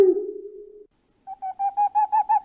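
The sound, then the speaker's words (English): A human voice imitates an owl: one long, low hoot, a brief pause, then a quick run of about seven shorter, higher hoots that grow louder as they go. “I'll hear an owl”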